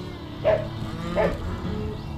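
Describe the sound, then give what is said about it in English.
Two short, nasal cow moos, one about half a second apart from the next, sound over a low, steady background hum, with no talking. “Cow, chicken, dog, they got music in them, all of them.”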